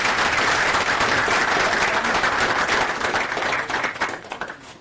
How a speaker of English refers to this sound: And a round of applause for the speaker, please.